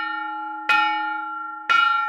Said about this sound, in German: Dadurch kann gezeigt werden, wie sich der Guss und der Klang der Glocken verändert hat. So etwa könnte eine Glocke vor 1200 Jahren geklungen haben.